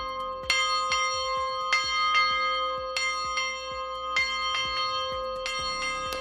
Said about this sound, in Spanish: No es tan frecuente como antaño, pero todavía podemos escuchar el sonido de las campanas, ya no solo en pueblos, sino también en ciudades como Madrid.